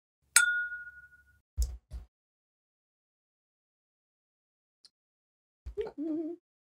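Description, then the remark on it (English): A single bright clink of glasses of a sweet, smoky drink rimmed with tajin touching in a toast, its clear ringing tone fading over about a second, followed by a couple of dull knocks and a short hum-like sound near the end. “Go ahead and rim up with some tajin, and it'll be a perfect balance there. Yeah. So it's nice, sweet, and smoky. I'm excited. Cheers.”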